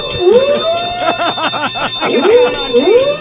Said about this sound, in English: No, wrong buzzer.